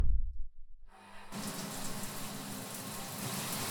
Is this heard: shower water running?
yes